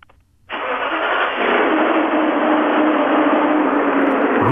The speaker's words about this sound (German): Ich hätte jetzt gern mal den Motor.